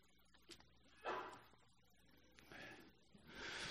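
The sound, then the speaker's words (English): A sneeze bursts out, framed by sharp breathy gasps and snorts, a few noisy blasts over about three seconds, with no talking. “Bless you.”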